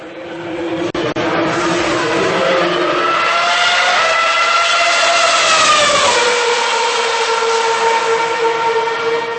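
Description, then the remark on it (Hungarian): A 2012 Ferrari Formula One car's engine screams loudly during a demo run by Sebastian Vettel at the Hungaroring, at the Ferrari Racing Days. Its high whine holds steady, then drops in pitch near the end as it shifts or slows. No one speaks. “A 2012-es Formula 1-es Ferrari-ban a négyszeres világbajnok Sebastian Vettel tartott látványos bemutatót.”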